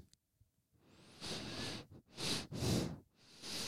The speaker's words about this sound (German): Die wird schon auf Pfeife. Ja, auf jeden Fall, meine Nase pfeift seit geraumer Zeit. Ich weiß auch nicht, warum.